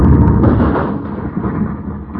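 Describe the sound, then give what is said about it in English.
A loud, deep explosion of a thrown, fuse-lit bomb rumbles without letup, a heavy low roar with crackling texture that fades only slightly over two seconds. No voices are heard. “Who tosses the bomb at us?”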